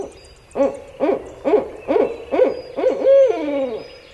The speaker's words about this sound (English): A barred owl hoots mightily as an alligator slithers by.